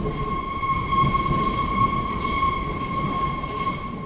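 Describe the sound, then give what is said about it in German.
A Berlin U-Bahn subway train, packed with football fans in winter, rumbles steadily with a sustained high-pitched whine running through it, a continuous rolling noise, with no voices heard. “Die Berliner U-Bahnen sind in diesen Tagen proppenvoll.”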